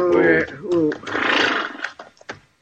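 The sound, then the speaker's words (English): A horse whinnies loudly, a shrill, wavering neigh that drops in pitch, followed by a breathy snort and a few short, scuffling sounds, as riders pull up to rest their horses in the shade of big rocks in rough, rocky country. “Pull up in the shade of these big rocks. We'll rest the horses a minute, and we'll head on back to the herd.”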